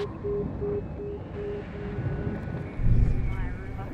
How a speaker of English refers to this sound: That's scary to have this helicopter hovering around.